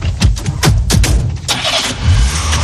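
A car engine cranks in a quick, rhythmic series of starter turns, then catches and roars into a steady, loud running hum with no voices.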